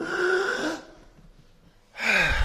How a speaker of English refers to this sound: You know, prayer, it's like breathing. Let's breathe, let's breathe.